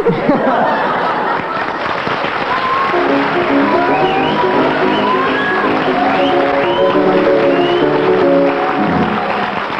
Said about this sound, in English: Ask the audience to applaud that one again.